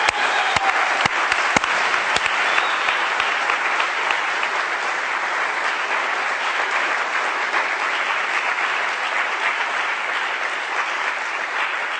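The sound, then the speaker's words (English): A crowd breaks into sustained applause for David Coombs, Bradley Manning's lawyer, a dense wash of clapping that stays loud and steady for the whole stretch, with a few sharper individual claps standing out near the start. “One is David Coombs has done an extraordinary job for Bradley Manning, and we should applaud that.”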